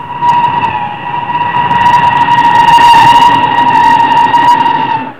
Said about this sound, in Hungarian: döbbenten nézte az eldübörgő vonatokat.